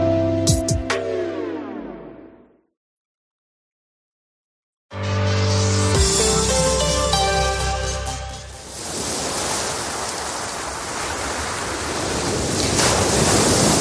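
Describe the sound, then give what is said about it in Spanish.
Ocean waves wash onto the shore in a steady, full roar of surf that swells and rolls on without pause, after a brief musical note and a moment of silence. “Este es el sonido del mar, ¿no? Siempre sugerente con su calma, también con esa belleza, con estas olas que parece que a todos nos desestresan, ¿no?, de esta vida que tenemos.”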